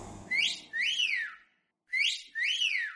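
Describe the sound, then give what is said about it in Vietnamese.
A man whistles a breezy, cheerful tune while shaving his own head with hair clippers: four swooping notes in two pairs, with a short pause between them, clear and alone without any talking. “Vừa ủi, ông vừa huýt sáo nghêu ngao ra vẻ vui tươi, chẳng có gì làm ầm ĩ.”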